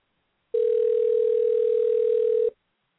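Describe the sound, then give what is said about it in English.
A single steady telephone tone, heard as a phone call is being placed, holds at one mid pitch for about two seconds, loud and unbroken, then stops abruptly. No voices accompany it. “I'm going to call him.”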